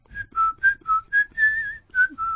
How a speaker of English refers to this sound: No, you don't whistle when you're sad.